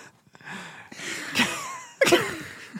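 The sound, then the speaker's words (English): A few short, breathy sniffs, with two sharper noisy bursts standing out among quieter airy sounds; no talking. “That just felt like a sniff.”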